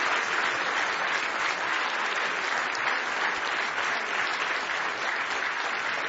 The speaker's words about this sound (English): Give Him another big hand clap of praise if you love Him.